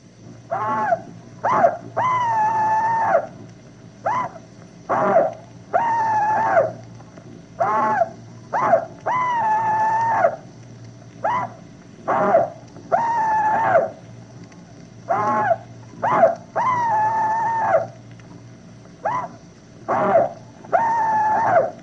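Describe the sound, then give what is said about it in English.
A Confederate veteran's rebel yell, recorded by radio station WBT, Charlotte, North Carolina: one voice repeating loud, high, yipping whoops, short sharp bursts alternating with longer wavering cries in a steady rhythm over a low constant hum, with no talking. “Now, here is one Confederate veteran's rebel yell.”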